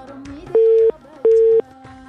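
A telephone busy tone after a caller's call to a phone-in program dropped: two loud, steady mid-pitched beeps, each about a third of a second, separated by a short gap, over a faint murmur of background sound.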